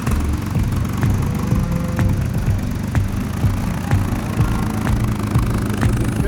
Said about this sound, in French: On va démarrer. On va monter sur le tracteur avec vous. Mais je vous invite à me suivre. Votre céréale bonne sera apportée. Il est un peu vieux, mais bon, il fonctionne.